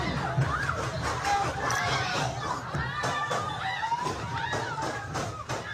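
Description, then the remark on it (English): A crowd at a party in a rented Airbnb, attended mostly by underage people, screams and shouts in panic, high wailing voices rising and falling, while a series of sharp, sudden gunshots cut through at irregular intervals. “I mean, listen to the gunshots, people.”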